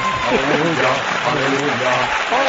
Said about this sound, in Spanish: ¡Estoy aplaudiendo!